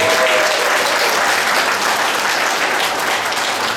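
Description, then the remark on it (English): A crowd claps steadily for a woman who made her entire outfit herself, a dense, even wash of applause that stays loud throughout with no voices breaking through. “All right, and one more round of applause”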